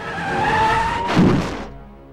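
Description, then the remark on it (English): A lorry's tyres screech in a long skid as Phil steps out into its path, then a dull, heavy thud of impact lands about halfway through, followed by a brief rumbling fade. “Next day, Phil steps out in the path of a lorry.”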